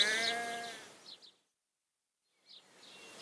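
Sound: sheep bleating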